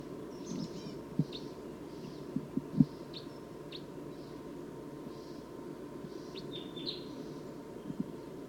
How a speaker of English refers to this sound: Wild bird's calling loud now, as well as the decoys.